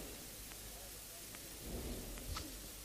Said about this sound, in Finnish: Kuului sateen kohina. Elia sanoi Ahabille kuninkaalle, nouse, syö ja juo, sillä sateen kohina kuuluu.